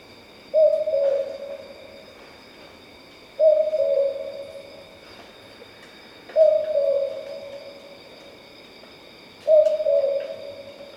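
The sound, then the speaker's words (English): A boobook owl (mopoke) calls four times, each a low two-note hoot spaced about three seconds apart, clear over a quiet night background with a steady faint insect hum. “The Boobook Owl that you just heard there, sometimes called the mopoke, is a very common species of owl that occurs in our area.”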